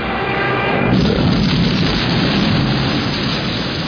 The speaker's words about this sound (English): this is a model shot, which is quite unbelievable, isn't it? And then subsequently, the aeroplane flies into the mountain, and John not only flew the aeroplane into the mountain, or his pilots did, but he detonated at the right time as well.